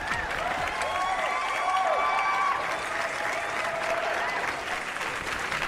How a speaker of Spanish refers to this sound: Aplausos, por favor.